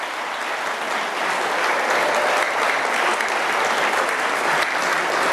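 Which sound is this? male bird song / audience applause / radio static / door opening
audience applause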